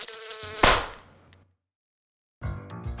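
A housefly buzzes in flight, cut off by a single sharp crack. After a second of silence the droning buzz starts up again, with no voices present.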